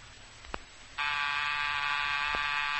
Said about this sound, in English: was that the front door buzzer?